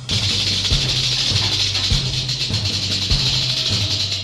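A snake's long, steady hiss holds for several seconds, fairly loud, with low thudding pulses repeating underneath at a slow, regular pace.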